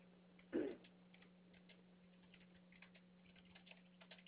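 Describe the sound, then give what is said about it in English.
Soft, irregular clicking of fingers typing on a computer keyboard, faint over a steady low hum, with one louder knock near the start; someone typing out information to send to a department. “I'm just typing out this information and to that department just so they have that information readily to go so that they can figure out what's going on from there.”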